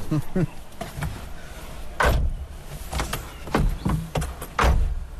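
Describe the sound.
Car doors open and shut with several solid thumps and clicks spread over a few seconds as people get into a car by a river, over a low outdoor rumble with faint muffled voices.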